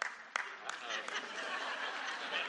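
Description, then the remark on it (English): A crowd breaks into applause with a few laughs mixed in, a dense steady patter of clapping, with a couple of sharper claps near the start. “I did not ask anybody to applaud at that point, but I'm grateful that they did.”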